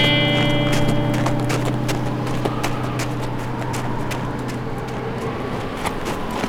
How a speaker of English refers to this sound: Slade and Lyle started their horses up the climb.